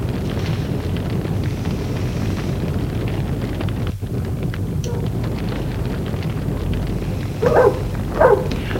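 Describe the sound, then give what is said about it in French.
A dog barks twice in quick succession near the end in a courtyard, short sharp barks rising over a steady, dense rumbling background noise that fills the whole recording. “Le chien aboyer dans la cour.”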